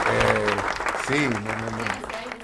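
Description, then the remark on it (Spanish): Steady applause fills the whole stretch, a dense crackle of many clapping hands, while a voice talks over it and the clapping gradually fades toward the end. “Bueno, me imagino que en todos lados donde están escuchando la radio están aplaudiendo.”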